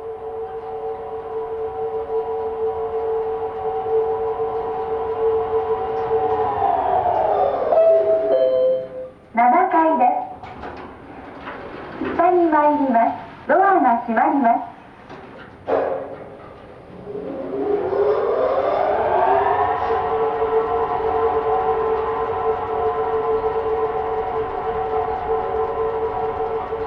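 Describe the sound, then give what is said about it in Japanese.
The motor of one of the two leftmost elevators at the Mediatheque, heard as it goes up to the 7th floor, whirs with a steady, humming whine whose pitch slides down and fades, a few voice-like sounds break in, then the whine glides back up and holds. “正面入り口から見て一番左にある2基のエレベーターは、他のエレベーターと違って7階まで行くとモーター音が聞こえてくるんです。”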